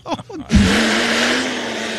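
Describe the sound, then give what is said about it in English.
A voice imitates a leaf blower: brief murmurs, then a sudden, steady, loud breathy roar with a low droning hum underneath, held without a break for about a second and a half. “Oh, it's a leaf blower.”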